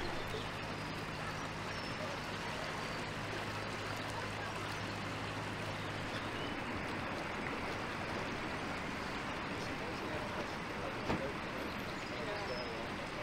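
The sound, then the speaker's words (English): Steady wash of water with a faint low electric hum beneath it that fades partway through, as eight electric-propelled boats set off and glide by almost silently; no engine roar, only a soft continuous hiss. “We've just set off, a little later than planned, but the one thing you immediately notice is we've got 8 boats moving and there's barely a sound to be heard. That's electric propulsion for you.”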